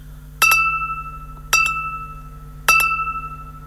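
Three bright, evenly spaced radio time-signal tones marking 10 o'clock, about a second apart, each with a sharp struck onset and a lingering ringing tail over a steady low hum. No one speaks.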